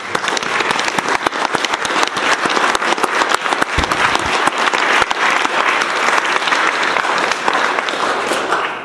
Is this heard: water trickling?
no